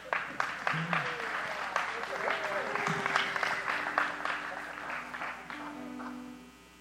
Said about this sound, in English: Thank you, sir. Give me a hand clap. Pray.